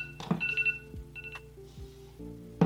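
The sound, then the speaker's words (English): A kitchen-style timer going off with a few short, high electronic beeps in quick bursts, alongside a couple of soft thumps and low background hum. “I'm saying that was a timer, excuse me, y'all.”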